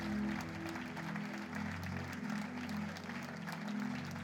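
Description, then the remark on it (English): A church audience claps steadily and continuously for Jesus, a dense wash of many hands, with a sustained low musical drone or organ tone running underneath throughout. “Keep clapping for Jesus.”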